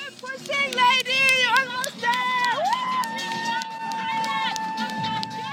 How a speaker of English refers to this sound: And gathered all along the course are thousands and thousands of spectators, singing, cheering, and encouraging the runners on.